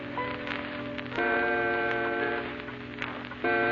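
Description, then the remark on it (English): A clock ticks with faint, evenly spaced clicks beneath sustained, droning musical tones that swell louder partway through. “The clock ticks off the eerie hours.”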